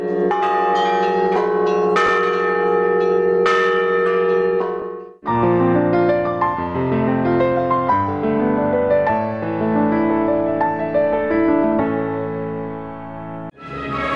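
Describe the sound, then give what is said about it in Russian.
Church bells ring out loudly and continuously, a dense peal of overlapping strikes with rich lingering overtones, one deep bell droning beneath quicker higher bells, with no voices present. “Будем надеяться, что благодаря колокольному звону люди вернутся в храм, что мы их разбудим.”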